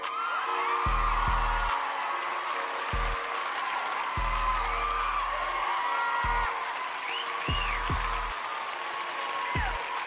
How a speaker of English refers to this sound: That's way too much. That is way too much credit. That no, they should not be applauding that much for that shit.